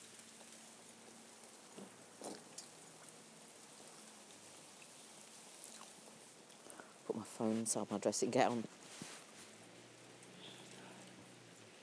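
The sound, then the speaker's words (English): Steady, dense hiss of torrential rain that has been pouring down all night, outdoors as a person walks into it, continuous throughout, with a person speaking briefly partway through over the downpour. “And as befits the day, I'm walking into torrential rain, which it's been all night.”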